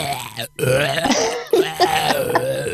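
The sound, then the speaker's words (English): A long, loud, gravelly burp stretches across a few seconds, breaking briefly partway through before rumbling on, with a rough, throaty texture. “Oh, I should use that burp and make it.”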